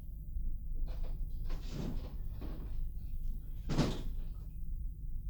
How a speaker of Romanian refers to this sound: Ah, stai! Deschide ușa de la terasă. Vreau să cobor puțin în grădină.